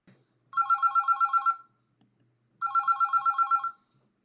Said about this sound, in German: So, ich lasse es mal klingeln.